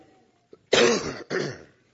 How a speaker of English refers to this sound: I'm battling a cough, and so I may be pausing and coughing, and I ask for your forgiveness for that in the very beginning. My throat, my voice may go out as well, so we'll just have to see what happens.